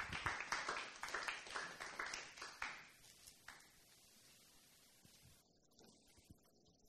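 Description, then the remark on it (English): Brief applause from a small audience for Pastor Mark Tusa: a quick run of sharp, fairly rhythmic claps that thins out after about three seconds, leaving near silence. No one speaks. “So let's give Pastor Mark Tusa a round of applause.”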